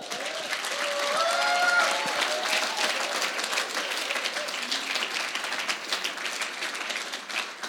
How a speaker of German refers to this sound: Wisst ihr was? Es geht hier nicht um mich, es geht nicht um uns. Lasst uns Jesus mal einen Applaus geben.